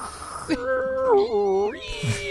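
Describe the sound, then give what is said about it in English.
A voice imitates a 1990s 2.8 dial-up modem connecting: a hissy burst, then a warbling, wavering whine, ending in scratchy static. It is fairly loud, about two seconds, with no other talking. “I blame it on the speed of the 2.8 modem, not that anyone didn't want to buy my underpants.”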